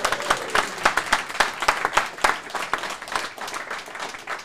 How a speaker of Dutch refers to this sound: Applaus!